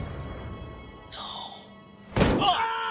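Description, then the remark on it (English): A body slams into a metal lamppost with one loud thunk, followed by a short metallic ring that hangs briefly after the hit. “He knocks over a fire hydrant and slams into a lamppost.”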